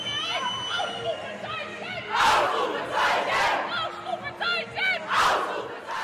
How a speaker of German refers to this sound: mit dem Jubel von Sportlerinnen zu tun hat.